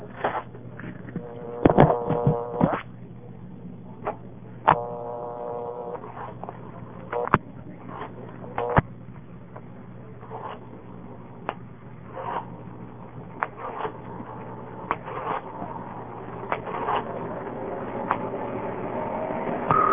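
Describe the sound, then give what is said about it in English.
A telephone being dialed to call the time service: sharp clicks and short bursts of tone, then more scattered clicks as the call goes through, all over a steady low line hum with no talking. “To dial something that reverses, I'll just dial the time so you can hear it go through.”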